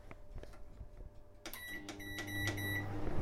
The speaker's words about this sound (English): Now see, turn on the microwave.